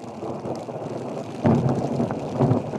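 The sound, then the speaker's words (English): Thundersnow during a big snowstorm in Kansas: a deep roll of thunder swells up midway, keeps rolling, and surges again near the end, all over a steady, windy hiss of graupel, little ice droplets, hitting the windows. “also experienced what we're hearing now, thunder snow”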